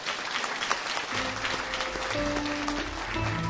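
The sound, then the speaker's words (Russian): An audience claps steadily throughout for the organizers and helpers of a gathering, a dense wash of many hands, while sustained instrumental tones begin to sound underneath after the first second. “Им отдельные ваши аплодисменты.”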